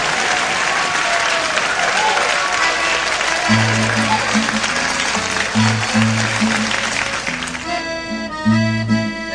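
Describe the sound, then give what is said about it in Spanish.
A large audience claps loudly and steadily for the whole stretch, applauding a performer about to sing, while instrumental music starts up underneath, first low bass notes and then a brighter melody near the end. “Pues un fuerte aplauso”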